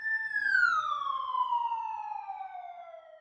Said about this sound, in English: Not long after, we were seated adjacent to the nurse triage station and catching up with our stories, when suddenly an ambulance arrived.